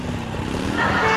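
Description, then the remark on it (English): A motorcycle engine rumbles outside the house, a steady throaty idle that swells louder and higher in pitch near the end as if revving. No voices. “It's not as if she's running out of the house to meet some wild drifter who's picking her up on a motorcycle.”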